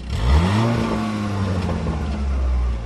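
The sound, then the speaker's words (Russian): A bright red Golf GTI's engine revs hard and accelerates as the car maneuvers between traffic cones at its limit and takes a sharp turn at high speed. Its pitch rises and falls in a continuous loud, throaty growl, with no one speaking. “Ярко-красный Golf GTI ловко маневрирует между дорожными конусами на пределе своих возможностей.”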